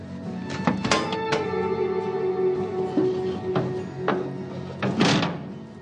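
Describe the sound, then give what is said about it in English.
One set of heavy double brass doors on a gas-fired, brick-lined crematorium oven at a rural cemetery in Massachusetts is opened with a series of sharp clanks and thuds, hinges and latches rattling over a steady low hum, ending in a grinding scrape. “We're in a room that is perhaps 20 feet long and maybe 10 feet or 15 feet wide, and to my left are three double brass doors, and opening one set.”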